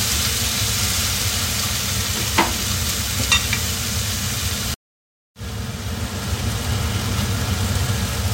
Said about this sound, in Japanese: 野菜ねしっかり火を通してからお肉をねここにまた戻したいんやけど、どうかな、こんなもん。まだ早いですか。すいません、でもうちょっと炒めます。